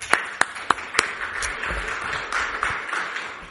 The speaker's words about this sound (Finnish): Kiitos, annan teille aplodit.